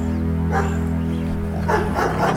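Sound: pack of dogs barking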